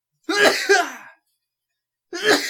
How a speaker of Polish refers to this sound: A niech pan kichnie.